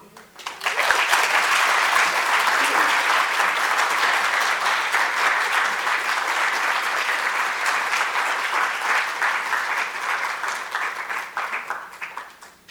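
An audience breaks into sustained applause, a dense, steady wash of many hands clapping that holds strong for over ten seconds before tapering slightly at the end.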